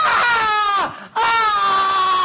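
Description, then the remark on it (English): A voice imitates the anguished screaming of the damned in the lake of fire: two loud, sustained, high wailing cries with a brief break between them, strained and sob-like, with no other talk. “And their worm won't die, and their flesh won't cut, and they'll be screaming in all eternity, and people will walk by and say, who are these?”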